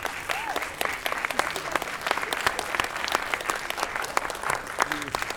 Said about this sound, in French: Je vais vous demander de les applaudir bien fort. Ils viennent de Marie-Galante.